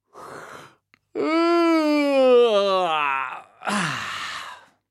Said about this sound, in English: Have a big yawn and a stretch. This will help you breathe in lots of air, ready to sing. So, big yawn.